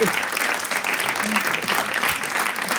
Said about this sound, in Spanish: Oye, un aplauso. Venga, un aplauso, hombre.